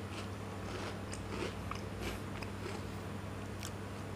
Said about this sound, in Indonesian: Bentar, ambil ngunyah.